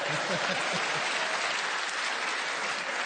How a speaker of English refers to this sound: Well, all I can say is, Steve, you got a good round of applause.